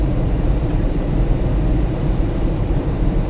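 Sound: airplane cabin noise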